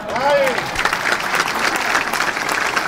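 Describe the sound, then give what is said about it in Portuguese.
Loud, dense applause fills a completely full hall at an Aliança Democrática campaign event in Portugal, many hands clapping in a steady, unbroken roar, with a brief swooping whistle near the start and crowd voices mingled in. “Bem, avançando por essas medidas e por esses temas que foi falando nos últimos dias, vai recebendo também os aplausos, sala completamente cheia.”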